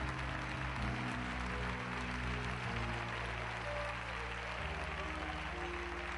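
An audience applauds the Lord steadily for several seconds before sitting down, a dense wash of clapping with sustained organ or keyboard tones humming underneath, fairly loud and continuous throughout.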